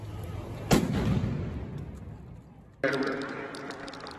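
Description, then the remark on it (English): A sharp, loud blast cracks out and rumbles away, followed by a second abrupt burst amid a noisy outdoor crowd: explosions going off during a street protest in Louisville. “Check out some of these fires that were lit around the area, as well as the explosions.”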